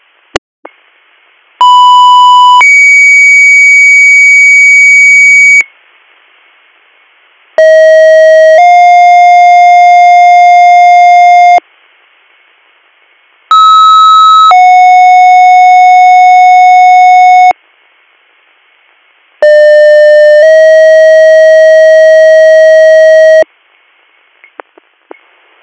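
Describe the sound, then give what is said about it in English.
Four loud electronic radio dispatch paging tone bursts alerting EMS Western to a call in South Creek Township, Bradford County, each a sustained pure tone that steps to a second pitch, roughly four seconds long with short silent gaps between them, alone with no talking. “Stand by for tones.”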